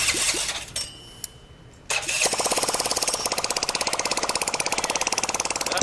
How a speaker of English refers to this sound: Back with the family, Scrap Daddy is trying desperately to get the engine going.